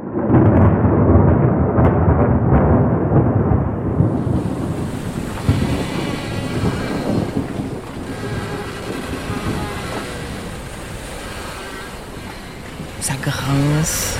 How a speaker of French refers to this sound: Il y a les vagues qui viennent s'écraser sur la coque, il y a de la houle, mauvais temps.